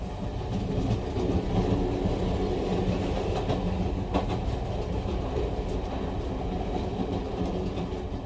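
Steady low rumble and hum of train wheels rolling on rails beneath a passenger compartment, continuous and fairly loud throughout, with faint rhythmic clicks and no voices.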